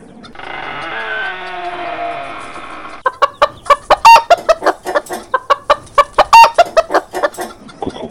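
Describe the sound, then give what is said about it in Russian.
A rooster lets out a long, loud crow, then chickens burst into frantic alarm clucking and squawking at a fox in the house, a rapid, irregular string of sharp calls. “Что может испугать такого смелого петуха, как я?”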